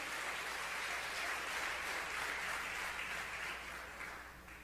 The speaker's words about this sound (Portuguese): Você pode aplaudir ao Senhor pela palavra?